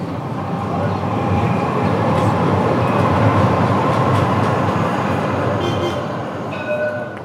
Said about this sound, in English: So I'm going to hop on a tram from Karaköy to the historical quarter of the city, Sultanahmet.